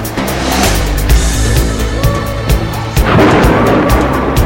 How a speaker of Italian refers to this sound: Lampi, tuoni e fulmini. Solita notte da lupi nel Bronx.